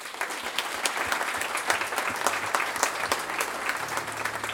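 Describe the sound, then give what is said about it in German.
An audience applauds the panel participants steadily, a dense wash of many hands clapping at a fairly loud, even level throughout, with no voices standing out. “Das ist sicher keine Selbstverständlichkeit und dafür nochmal einen ganz, ganz großen Applaus von euch bitte.”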